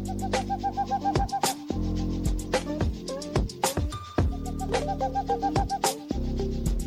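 A looping beat built from chopped bird call samples: repeated cooing, hoot-like tones ride over a steady bass and sharp percussive hits in a tight, even rhythm, loud with no talking.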